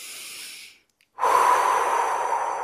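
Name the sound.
deep belly breathing demonstration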